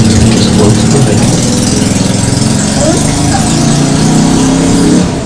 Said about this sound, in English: It's noisy, isn't it? It's a motorbike. It's noisy, isn't it? Yeah. Where's the motorbike gone? Where is it? It's gone, mate.